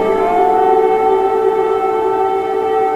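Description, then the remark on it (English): A steady, sustained air raid siren wails at full volume across Kyiv, Ukraine, during a large-scale Russian missile attack. It holds a constant droning tone with harmonic layers, echoing across the city as residents shelter in subway stations. No voices. “Air raid sirens sound across Kyiv, forcing residents into subway stations for shelter.”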